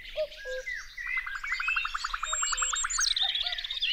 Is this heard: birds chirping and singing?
yes